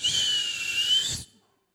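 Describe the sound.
A person whistles one steady, breathy note lasting just over a second, airy and a bit weak, then it cuts off into silence. No talking.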